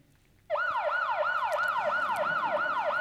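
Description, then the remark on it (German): A loud Austrian nationwide siren alarm signal, heard throughout Austria, starts after a brief moment of quiet, sounding as rapid, repeating rising whoops about twice per second, steady, with no voices. “Und, sie haben natürlich noch ein Sirenensignal, möchte ich euch nicht vorenthalten. Das hört man in ganz Österreich und das ist dieses hier.”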